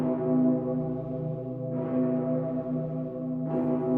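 signal or alarm, large cathedral bell ringing

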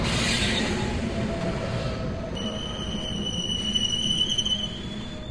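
vehicle, train

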